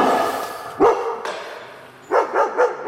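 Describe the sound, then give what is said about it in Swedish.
At the Swedish Armed Forces dog testing facility in Märsta, a dog reacts to a sled used to simulate a threat: a single sharp bark, a pause, then three quick barks in a row, over a steady low background hiss with no talking. “Och den ska då simulera att man hotar när hunden sakta fint. Ska vi se hur hunden reagerar.”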